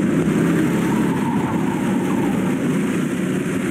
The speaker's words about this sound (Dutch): Nou, laten we even een fragmentje luisteren naar van dat buitenkarten. Wat dat nou zo leuk maakt.